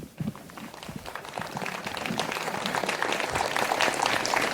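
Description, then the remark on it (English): An audience breaks into applause, a dense crackle of many hands clapping that starts thin and swells steadily louder over a few seconds, with no speech over it. “So, is it difficult for you to applaud here?”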